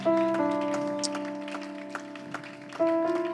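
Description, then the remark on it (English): An audience claps hands in praise unto the Lord, steady rhythmic claps over sustained organ-like chords, moderately loud with no voices standing out. “If we could go ahead and lay our Bibles in our seat, let's go ahead and give another hand clap of praise unto the Lord.”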